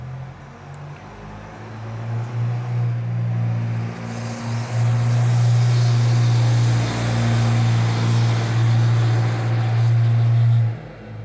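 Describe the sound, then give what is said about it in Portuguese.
A loud, rough engine rumbles close by for the whole stretch, a deep steady drone that swells and grows harsher partway through before cutting off near the end, from a very rough-sounding car or a tractor passing near a house. “Eu não sei se passou um carro muito ruim ou um trator aqui perto de casa.”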